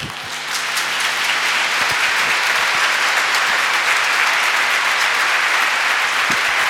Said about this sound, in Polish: Powstańmy, niech te oklaski będą dla Pana Jezusa. Niech te oklaski będą na chwałę Bożą. Niech wielu ludzi usłyszy te nasze oklaski, to nasze uwielbienie właśnie w ten sposób.